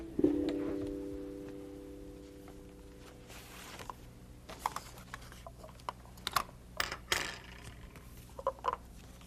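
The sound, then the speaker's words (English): Paper plates and paper cups being handled in a kitchen to make a model of a merry-go-round, with scattered light taps, rustles and clicks coming in irregular bursts, all at a fairly soft level with no one speaking. “We could make one out of a couple paper plates and a couple paper cups.”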